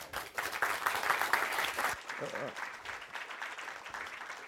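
Audience applause, a dense, steady patter of many hands clapping for about two seconds, then thinning into scattered claps with a brief low hum and murmuring beneath.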